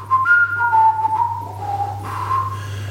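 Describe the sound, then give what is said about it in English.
Someone whistles a short, wavering melody, the notes gliding between pitches for a few seconds over a steady low background hum, with no talking. “I think Bet365 musically could have just whistled.”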